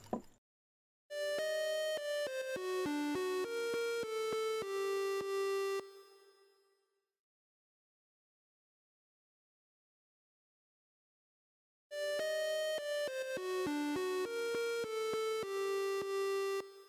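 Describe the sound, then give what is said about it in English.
An outgoing phone call rings twice, each ring a clear, electronic melodic burst of about five seconds, separated by a long silent pause, with no voices present. “I'm still surprised I didn't drop the phone.”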